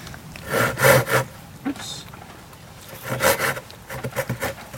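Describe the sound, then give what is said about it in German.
A hand saw rasps through wood in quick back-and-forth strokes during volunteer ranger trail maintenance, a short burst of strokes, a brief pause, then another steady run of sawing. “Diverse Sägen hat er auch dabei.”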